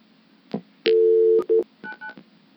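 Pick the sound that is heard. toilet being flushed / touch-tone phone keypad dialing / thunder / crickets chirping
touch-tone phone keypad dialing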